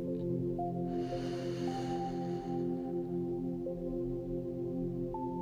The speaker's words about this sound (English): So when you feel ready, you can take a deep and slow breath in and out. Breathing in